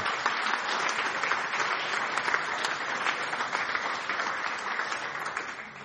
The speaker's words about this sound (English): So if you two would stand up as well, please, as part of the making the church effectively encourage and be a welcoming place. And we'll give these people a round of applause, please.